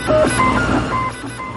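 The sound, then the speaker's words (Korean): A 3D printer runs, its stepper motors whining in short shifting pitched tones over a steady mechanical hum, with no voices present. “이 단체는 전 세계에 팔이 없는 아이들을 위해 3D 프린터로 인공 손을 만들어주는 단체지요.”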